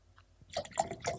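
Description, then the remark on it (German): Water pours into a glass in a short burst of gurgling splashes with a rising, bubbly tone, fairly quiet and heard on its own without any talking. “Ich brauche Wasser. Ich höre das.”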